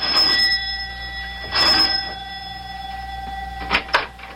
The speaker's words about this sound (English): Both of them are worried now as Mac presses the doorbell at his house in answer to the professor's elated phone call.